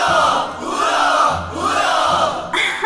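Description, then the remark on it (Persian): A crowd cheers loudly in three rising surges of shouted hurrahs, voices blending into a roaring mass of excitement. “هورا متشکرم.”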